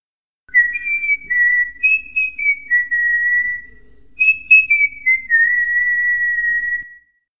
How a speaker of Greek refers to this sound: Σφυρίζω.